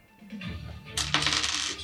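Three dice are rolled onto a table for a damage roll in a tabletop game: a rattling clatter of small hard objects tumbling onto a hard surface, a low shuffle first, then a bright burst of clicks settling over about a second, fairly loud.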